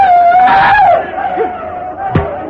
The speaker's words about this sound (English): Occasionally, one brave would yell, rush forward and let fly an arrow, then dart back to shelter.